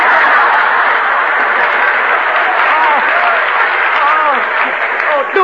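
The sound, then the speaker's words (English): An audience claps steadily as Charlie Chan, star of the picture, appears in person, a dense, continuous wash of applause at an even loudness throughout, with a few scattered voices calling out over it. “Hey, Confucius, clap hands. Here comes Charlie.”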